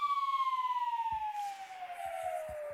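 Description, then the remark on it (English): A slide whistle sound effect: one clear, steady whistling tone that glides slowly downward in pitch for nearly three seconds, with a few soft low thumps near the end. “It's like a slide whistle, though.”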